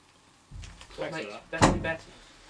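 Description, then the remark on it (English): A door is pushed shut with a dull thump, then a sharper bang of it closing firmly, with faint voices murmuring around it. “Shut a door.”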